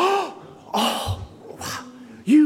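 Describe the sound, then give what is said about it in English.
A voice imitates a gasp of surprise, as when someone opens a handmade gift: two sharp, breathy intakes of air, bracketed by short voiced sounds, with no words spoken. “And the response is almost always, as the person opens it up, a gasp.”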